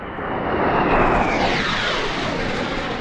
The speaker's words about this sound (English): 40 miles away as a Sukhoi fighter plane flies, top brass from eight nations, including Pakistan and four Central Asian states, are assembling at a tank firing range.